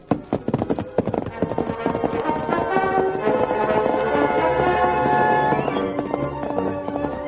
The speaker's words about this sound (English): Leaving Tonto on guard, the Lone Ranger set off in the darkness on his great horse, Silver. Come, Silver!